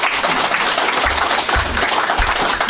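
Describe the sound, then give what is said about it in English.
Steady crowd applause fills the whole stretch, a dense wash of many hands clapping at once with no voices standing out, holding an even loudness throughout. “Give these men a round of applause.”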